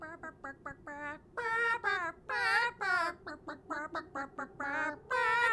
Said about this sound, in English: So, little chickens, could you sing